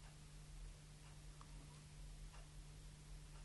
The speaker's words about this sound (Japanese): 変わり続ける景色を眺めながら、進み続けるその足を止めることなく、刻み続けてきた時間が今も、この腕時計と共に。